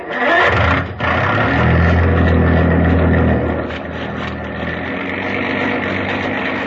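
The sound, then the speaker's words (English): A deep, loud foghorn blares in one long sustained low tone for a few seconds, then fades, leaving a steady rumbling background like an idling engine. “That was just a foghorn.”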